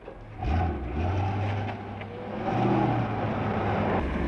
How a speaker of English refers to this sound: Ross observes through the open window as Harry crosses the courtyard to where Johnny Vulcan leans against his soft-topped American car. Harry gets in and Vulcan drives away.